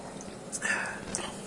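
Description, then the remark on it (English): A short, light clink of two Fresca soda drinks tapped together, followed by soft sipping sounds. “And here, let's clink our... Fresca.”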